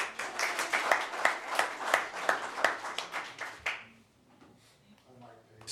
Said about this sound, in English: Thank you. You're clapping.